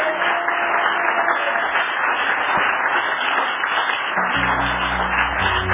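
Thin, scattered applause crackles steadily for several seconds without building or fading, and a low droning hum joins in near the end.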